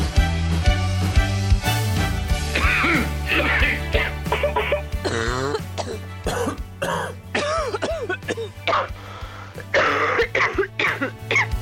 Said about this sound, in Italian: Viene da tossire, ma è terribile, no? Abbiamo tutti la tosse, vi siete riconosciuti in un qualche colpo che abbiamo appena sentito?